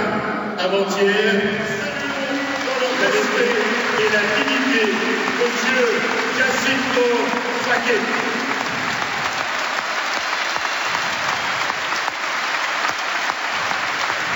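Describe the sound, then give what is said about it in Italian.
A large stadium crowd applauds in tribute to former captain Giacinto Facchetti, a dense, steady roar of clapping mixed with crowd voices, holding loud for about nine seconds before thinning slightly toward the end. “Questo grande applauso era per te, capitano.”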